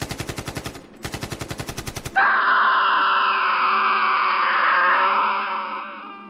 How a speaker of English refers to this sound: As I ran, I heard the sounds of gunfire, shortly followed by more screaming.